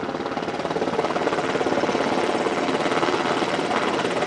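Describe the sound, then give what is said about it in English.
A helicopter's rotor thumps in a fast, steady rhythm over a loud, dense engine roar, constant throughout with no voices, as it flies over rugged mountains and desert along the border into Arizona. “So the new Commissioner of Customs and Border Protection took several helicopter rides over the rugged mountains and desert where people and drugs cross the border into Arizona.”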